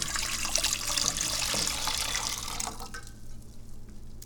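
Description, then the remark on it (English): Tea pours steadily into a tea reheating vessel for nearly three seconds, a bright splashing stream that abruptly stops, followed by a few faint drips and quiet room hum. No one speaks. “Pouring the tea into the tea reheating vessel.”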